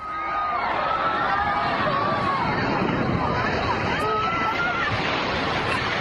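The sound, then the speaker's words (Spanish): A 2-metre wave, generated when a wave pool's mechanism fails, surges through a pool packed with bathers, recorded from the pool's edge: a steady loud rush of churning water under a crowd of many voices shouting and screaming throughout. “el mecanismo falla y genera una ola de 2 metros que lo arrasa todo”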